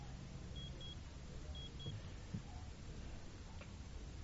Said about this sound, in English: Sorry, got an alarm going off somewhere.